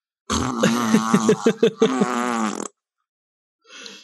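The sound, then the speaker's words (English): A voice blows a loud, buzzy imitation of a fart, about two and a half seconds long with a sputtering, pulsing rattle partway through. It ends abruptly, followed by a brief faint noise. “Legally speaking, the fart noise has to be made after that statement.”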